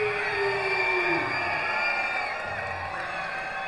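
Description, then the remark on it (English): Lake County Captains fans at a baseball game against Lansing scream and cheer in a loud, sustained roar, many high-pitched voices and whoops blending together without pause for several seconds. “Then let me hear you scream!”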